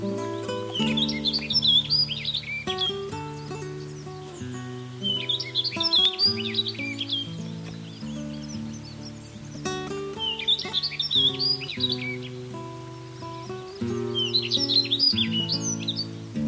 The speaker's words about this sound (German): Das war die Waldammer.